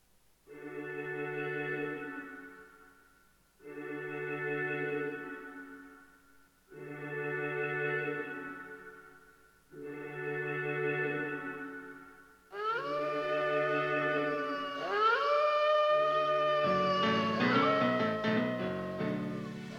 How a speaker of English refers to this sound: Yeah, this is more of a sort of spoken word instrumental tune.